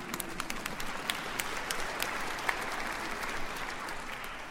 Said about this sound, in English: And yes, you can clap if you want.